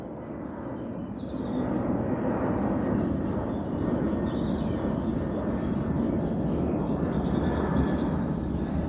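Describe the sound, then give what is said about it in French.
A low-flying airplane taking off roars overhead about 4-5 km from Bierzé, its loud, steady engine rumble swelling after a second and holding, with birds chirping faintly in the background. “L'avion vole bas.”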